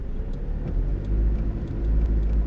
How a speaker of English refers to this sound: Just back the car up. Oh, Yeah, okay. Hold on.